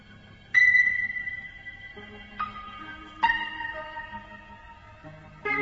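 Slow rock music with echoing, sonar-like pinging notes struck every second or so over a soft, sustained low drone. It plays quietly at a steady level, with no voices.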